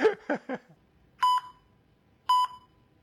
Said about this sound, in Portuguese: Atender um telefone, mas vai ser zica, né?